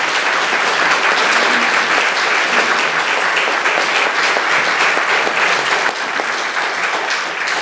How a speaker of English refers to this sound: my congregation, we show our appreciation. Let's give them a round of applause.